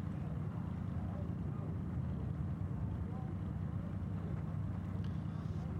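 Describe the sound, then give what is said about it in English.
The AMG V8 engine of the number 37 Thiers Competition Mercedes race car, stopped at turn one under a full course yellow, idles steadily: a deep, continuous low rumble holding an even level throughout, with no revving or gear changes. “Now, the engine is still running. I can hear the AMG V8 in the background.”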